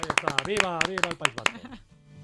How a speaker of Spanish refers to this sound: Oye, muy buena noticia. Un aplauso. Damos un aplauso.